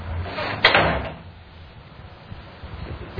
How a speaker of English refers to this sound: Yeah, shut the door, man.